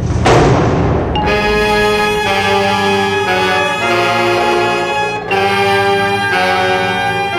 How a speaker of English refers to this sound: That was the door slamming shut.